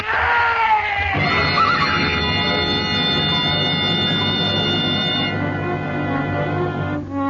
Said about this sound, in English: The horse stumbled. Of course he stumbled. That trail's for mules, not horses.